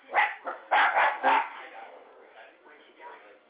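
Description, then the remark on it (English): Dogs bark in a quick series of sharp, loud yaps, then settle into fainter, scattered barking and whining toward the end. “And my dogs are acting like fools.”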